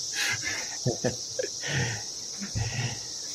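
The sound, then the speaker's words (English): A cicada sings in a continuous, high-pitched buzzing drone that holds steady for the whole stretch, with a few brief low thumps and murmurs underneath. “So it sounds like there's quite a lot going on in the cicada sound.”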